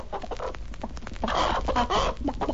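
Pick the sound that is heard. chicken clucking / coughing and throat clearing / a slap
chicken clucking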